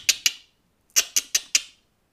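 A woodpecker pecks at a tree with sharp, crisp taps: a pair of knocks, a brief pause, then four more in an even rhythm. No voices are heard.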